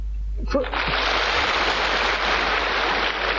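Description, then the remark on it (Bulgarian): A brief voice gives way to a sudden burst of audience applause, a dense, steady wash of many clapping hands that stays loud and even until the end. “Изчакайте с аплодисментите, това не е, което са имали в предвид.”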